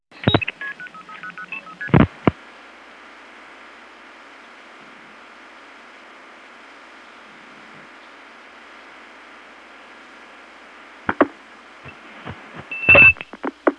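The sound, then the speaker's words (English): Telephone trunk line signaling while breaking into a ringing line through a toll tandem in Hempstead: a steady hum of line noise broken by sharp clicks and brief multi-tone bursts near the start as a bell is rung once and the trunk responds, then more clicks and a short tone burst toward the end, with no talking. “See, I rang the bell once and the trunk responded.”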